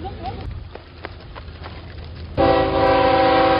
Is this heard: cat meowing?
no